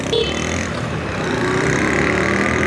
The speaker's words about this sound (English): There is a lot of traffic. That was a little weird. I got caught at a point just outside the station where there was just traffic coming from all directions